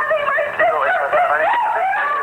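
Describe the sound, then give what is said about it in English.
A woman screams on a recorded 911 call reporting her 28-year-old sister being attacked, on South Roberta Drive: loud, shrill and wavering, pitch rising and falling in continuous anguished wails for a couple of seconds, with a thin, phone-line tone and no talking. “Neighbors on South Roberta Drive recalled hearing these screams.”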